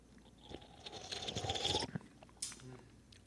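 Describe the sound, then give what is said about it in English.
A wet slurping sip of a drink lasting over a second with a faint crackly fizz, followed by a short swallow-like sound, with no talking. “Okay, are we sipping, guys?”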